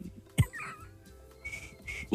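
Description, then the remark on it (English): Someone tries to do a loud blowout whistle in a message they left, producing a few short, airy, breathy bursts with a thin tone rather than a clean piercing note, after a sharp thump near the start. “I left you a message of me whistling”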